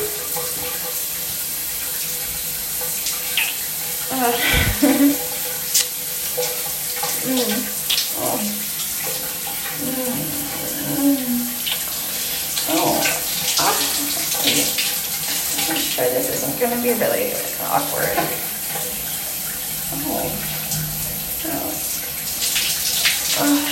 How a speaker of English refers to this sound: I have to take a shower anyways.